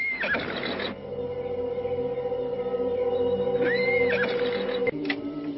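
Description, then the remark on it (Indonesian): Horses whinny loudly, two long wavering neighs rising and falling, with a steady low hum of background noise underneath and no talking. The horses are being ridden up to a dark hut, and their riders are about to dismount. “Kukira sebaiknya kita turun dulu dari kuda kita.”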